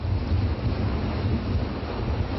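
Big waves breaking on the shore make a steady, loud rushing roar with a deep low rumble, mixed with wind buffeting the microphone; no one speaks.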